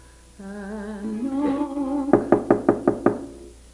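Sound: knocking on a door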